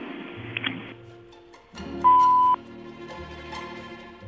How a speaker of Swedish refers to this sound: Please give your message after the beep.